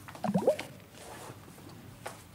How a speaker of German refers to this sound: Aus dem elektrischen Kopiergerät spritzt der Entwickler.